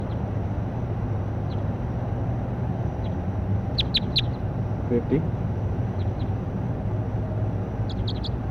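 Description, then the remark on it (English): Short, high-pitched bird chirps come in quick bursts, a cluster of three midway and another pair at the end, with a few fainter peeps between, all over a steady low rumble. “That was 50, that last chirp.”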